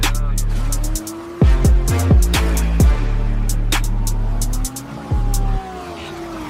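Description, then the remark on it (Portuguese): A car engine roars and revs hard, its pitch rising and dropping in bursts, with sharp tire-squeal-like sweeps, over a heavy, booming low end. “Grave pesado e ronco de motor acelerando.”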